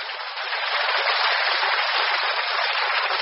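Audience applause: a dense, steady wash of many hands clapping, fairly loud and sustained for about three seconds without a break, with no voices over it.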